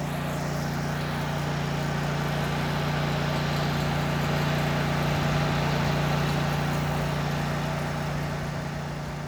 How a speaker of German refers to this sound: Es geht weiter, angenehm belebt. Wir überholen ein LKW. Das ist das Beste.